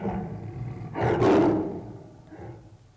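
A lion gives one deep, powerful roar that swells and then fades, followed by a softer, shorter rumble near the end. No one speaks.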